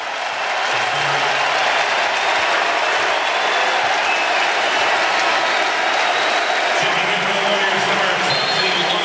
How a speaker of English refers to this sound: And listen to the applause at Chase Center for Stephen Curry.